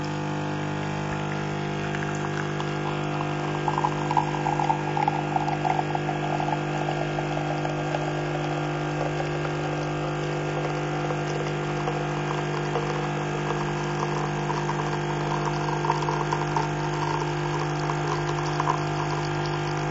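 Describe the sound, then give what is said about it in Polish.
A coffee machine runs steadily while making coffee, its pump giving off a loud, continuous buzzing hum with a gurgling, liquid edge for the whole stretch. Nobody talks. “Jednym z hałasów codziennych jest hałas przy robieniu sobie kawy.”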